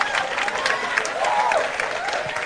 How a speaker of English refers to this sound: Clap. Clap.